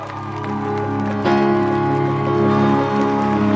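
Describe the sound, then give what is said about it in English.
A crowd at the Connect 2023 church gathering claps and cheers steadily over sustained music as Apostle Mike Oropo is welcomed, the dense applause swelling a little louder partway through and carrying on without any clear speech. “Hallelujah, with a great shout of applause unto the Lord.”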